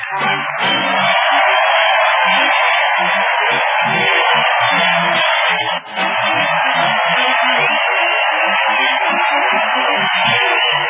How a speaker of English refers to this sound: Listen to that. It's an enthusiastic crowd following the parade of the old Town Hall tonight, folks.